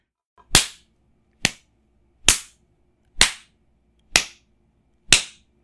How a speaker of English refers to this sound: but there's nothing quite like spanking this round ass of yours. Oh, yes, it's going to hurt.